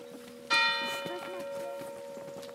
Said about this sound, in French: Dis, tu sais, toi, pourquoi les cloches sonnent ? Il y a très longtemps, les cloches ne sonnaient pas comme aujourd'hui. Oh non, elles étaient très silencieuses.